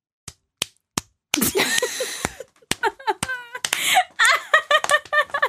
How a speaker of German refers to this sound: Klatsch jetzt mal. Klatsch jetzt. Ja, aber ich kann sagen so, es tönt vielleicht jeder vierte Schlag tönt. Aber zwischendurch gibt es immer so armselige Nichts.